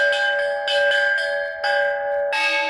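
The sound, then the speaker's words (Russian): Church bells of the Holy Trinity church in the village of Orzhevka, Umyotsky district, ring out in a steady peal on a Sunday as a visiting bishop is welcomed, with repeated strikes layering over long, shimmering tones that hang in the air. The chimes are loud, and no voices are heard. “Под перезвон колоколов по русской традиции епископа Уваровского и Кирсановского Игнатия с караваем встретила одна из самых юных прихожанок храма”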